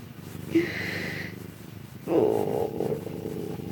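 cat purring

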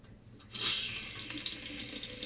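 water running

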